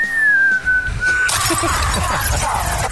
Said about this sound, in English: I thought I'd whistle your cue. That was really nice.